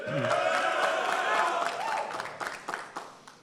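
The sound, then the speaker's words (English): Alpha Chi Delta members burst into cheering and whooping for themselves, with loud voices yelling over steady applause that thins out into scattered, sharp claps toward the end. “They always applaud themselves.”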